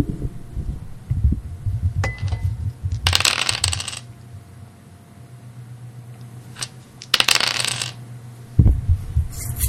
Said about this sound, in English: So I am going to roll the dice. You're going to hear it.